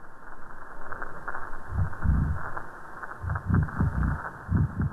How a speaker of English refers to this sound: And again, at 3 p.m. the next day, the background noise goes back up. And we're thinking that it's a combination of the boat noise and also the evening chorus of the croaker fish.